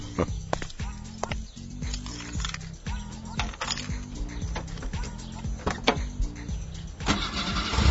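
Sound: car engine starting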